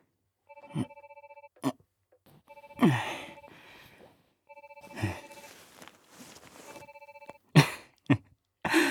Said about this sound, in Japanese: 別に誰からの電話でも関係ないでしょう。無関係なんだから。出なくていい。